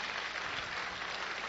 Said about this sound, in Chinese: 好，我们用最热烈的掌声来欢迎他。